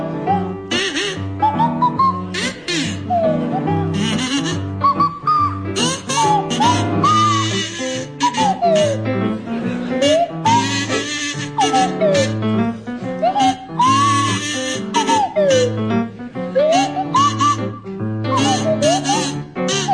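A buzzing kazoo played by Victoria Wood and a sliding swanee whistle played by Tim Brooke-Taylor play a jaunty tune together, the whistle swooping up and down in glides over the steady kazoo buzz, loud throughout.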